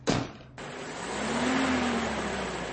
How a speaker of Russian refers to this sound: Голубятни подъехал УАЗик. Из него вышли трое бойцов с автоматами.